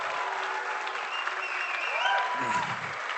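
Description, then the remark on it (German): A crowd of Baden supporters boos steadily, a dense wash of many voices with a few individual drawn-out tones rising above it toward the end, with no speech over it. “Ja, da gibt es die Buhrufe aus der badischen Fraktion, es tut mir echt leid”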